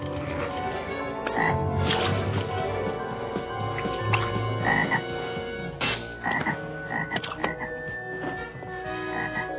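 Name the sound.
many frogs croaking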